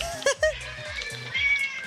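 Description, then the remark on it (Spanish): A kitten gives two short, high-pitched meows in quick succession, sitting in the background over a low murmur of voices that carries on throughout. “El gatito atrás. Me encanta que tiene el gatito coro.”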